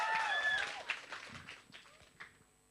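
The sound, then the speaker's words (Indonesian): An audience applauds the team Buah Batu, presenting its innovation Easy Maker, in a brief burst of dense, scattered clapping that thins out and fades over a few seconds, with faint voices and a thin high tone mixed in. “Kita kasih tepuk tangannya.”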